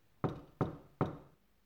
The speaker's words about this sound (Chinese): 哎，来了。 会敲门，会是谁啊？